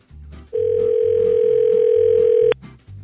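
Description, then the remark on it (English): A telephone dial tone sounds as one loud, steady mid-pitched hum for about two seconds and then cuts off abruptly, with a low, pulsing rhythmic backing underneath throughout, as a radio host at 104.7 The Fish phones a contest winner in Duluth. “And let's see if I can get our winner from Duluth on the phone here.”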